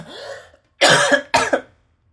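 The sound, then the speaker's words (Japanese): Someone clears their throat with two loud, harsh bursts in quick succession, preceded by a softer, brief vocal sound. “ちょっと咳払いさせて”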